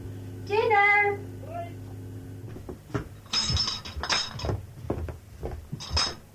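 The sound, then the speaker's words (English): Glass bottles clink and rattle together as they are put out at a home in Dublin, recorded in 1991, a cluster of bright chinks over several seconds, after a brief voice-like sound at the start. “So that's the bottles out.”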